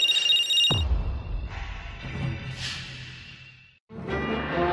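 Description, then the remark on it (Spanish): An electronic phone ringtone chimes in bright repeating tones, mixed with a low rumbling sound effect, then cuts out briefly before the ringing melody resumes. “No, De ninguna manera contestaré. No lo haré. Este número es de... ¿Eric?”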